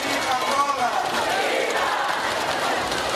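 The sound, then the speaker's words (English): A huge crowd at the final pre-election rally of Angola's ruling People's Movement for the Liberation of Angola roars and cheers for José Eduardo dos Santos without pause, a dense, steady wall of many voices with faint whistles and shouts poking through the din. “"I am here," he told this massive crowd during the final pre-election rally of the ruling People's Movement for the Liberation of Angola, "to support our candidate."”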